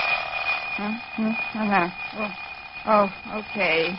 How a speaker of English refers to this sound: Okay. Darned alarm clock. I wish you'd waited for another minute.